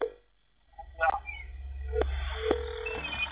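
A few short electronic telephone keypad DTMF tones sound at separate moments over a low background hum, with a faint murmur of activity between them.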